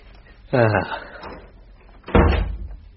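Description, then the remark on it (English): A door of a bed and breakfast creaks open with a wavering, squeaky hinge as someone walks in, then about a second and a half later swings shut with a louder, heavier thud that rings out briefly. “Rather in the way you've just walked in through the door.”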